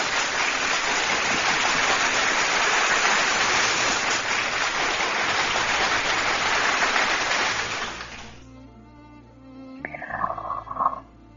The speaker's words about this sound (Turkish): O alkışlayan ellerinize kurban olayım, gönlümün dostları.